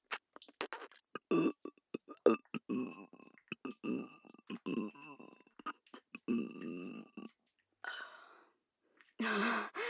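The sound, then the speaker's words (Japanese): A girl lets out a series of loud, drawn-out burps in uneven bursts with short gaps, some throaty and gurgling, ending in a longer, rougher belch. “あら、ゲップ飲め。”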